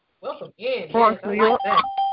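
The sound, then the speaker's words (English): A voice speaks briefly, then a conference call join chime sounds at the end, a single clear electronic tone that holds steadily for a moment as the talking stops. “It's all those chimes.”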